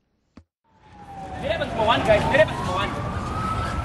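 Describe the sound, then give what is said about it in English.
Police sirens rise and fall over a loud, dense outdoor din of crowd noise and traffic in Harare as police disperse opposition Movement for Democratic Change supporters at a rally. The wailing tone is steady across several seconds after a brief click at the start. “Sirens wailed Wednesday as police tried to disperse supporters of the Movement for Democratic Change as they waited to hear an address by party leader Nelson Chamisa.”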